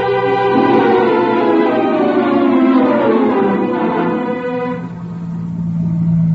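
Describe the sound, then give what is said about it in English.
A car engine runs steadily and loudly, its pitch rising and falling as it drives and changes speed, with no voices over it. “I got a car downstairs.”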